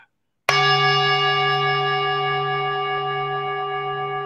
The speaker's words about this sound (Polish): Dzwon, nie dzwoneczek, misa.